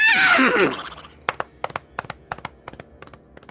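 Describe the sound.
A human voice imitates a horse's shrill, wavering whinny for about a second, then a quick series of sharp clicks mimics galloping hooves, fairly loud.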